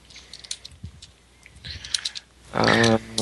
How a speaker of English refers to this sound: Hold on. Keep talking. Got to fill in the space while I'm typing.